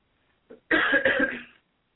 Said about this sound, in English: Yes, I had to cough, so I didn't want to cough into the audience.